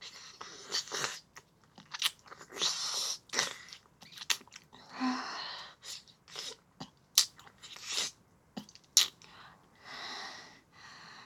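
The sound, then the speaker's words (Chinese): Wet, sticky licking sounds of something salty come in irregular bursts, some short smacks and some longer slurps, with soft breathy noise between them and no speech. “咸咸的东西，不管怎么舔，都舔不完呢。”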